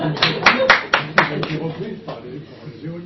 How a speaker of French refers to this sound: On peut l'applaudir.